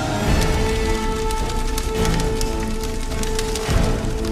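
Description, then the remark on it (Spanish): A campfire lit by Pinocchio, Geppetto and Jiminy Cricket crackles steadily, with a dense run of sharp little pops and snaps over a continuous low rushing roar, moderately loud throughout and with no voices. “Encendieron una fogata.”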